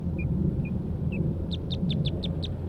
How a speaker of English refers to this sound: Recording tape 27B, JGXC, vocalizations of Red Cross Bills